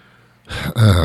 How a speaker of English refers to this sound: Sorry, I'm clearing my throat.